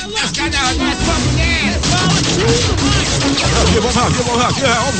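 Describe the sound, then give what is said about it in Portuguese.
A chaotic burst of rapid gunfire as police officers arriving at an address in the Senhorinha Cário neighbourhood are met with shots, loud and continuous for several seconds, mixed with shouting voices and clattering noise. “Quando os policiais da Rondesp chegaram, Mac, uhum, foram recepcionados a tiros.”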